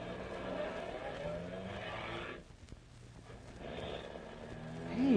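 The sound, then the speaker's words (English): A car drives off along a wet road, its engine rumbling beneath a steady hiss of tires through water. The noise briefly drops away midway before swelling back up, with no voices. “There's water under our car wheels right now.”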